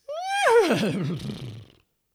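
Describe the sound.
A loud horse-like whinny imitated by voices in an Opera Southeast performance, as the horses of Duke William disembark at Pevensey, rising briefly then falling in a shaky, warbling descent that fades out after under two seconds, with no talking.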